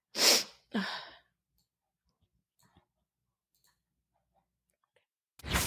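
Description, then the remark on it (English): A sharp sneeze bursts out in two quick explosive gusts, then near silence with a few faint clicks, before another abrupt breathy burst at the very end. “Almost sneezed.”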